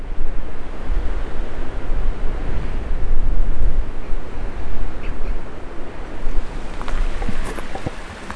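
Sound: river water flowing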